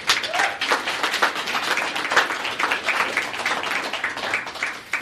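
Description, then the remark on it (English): An audience at a public meeting breaks into sustained applause after a speaker's public comment, many hands clapping densely and steadily for several seconds at moderate loudness, with a faint voice or two mixed in before it tapers slightly at the end. “Let's do it without applause and outbursts like that.”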